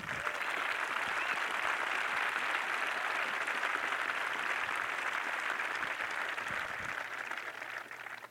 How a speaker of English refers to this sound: Each of those claps represents a different story. That's what I love about that.